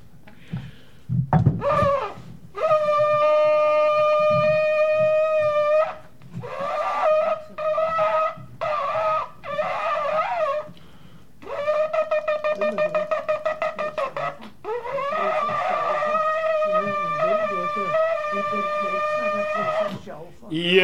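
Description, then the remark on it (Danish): A very old shofar, a bored-out ram's horn no longer used in the synagogue, is blown in several long, strained blasts (tekia, shevarim, teruah), giving a buzzy, brassy tone with rich overtones, including a long steady note, a choppy broken series and a final sustained call. “Der er ikke meget gennemgang i sådan en shofar, som jo er et vædderhorn, som er udboret, og så er der lidt luft igennem.”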